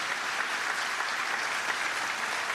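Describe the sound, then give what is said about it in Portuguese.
A church audience applauds the Lord for restored lives in a steady, dense wash of clapping that holds at an even level for the whole stretch, with no voices rising above it. “E você pode aplaudir ao Senhor por vidas restauradas.”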